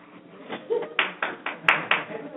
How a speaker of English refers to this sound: We got one hand clap, so that ain't gonna work.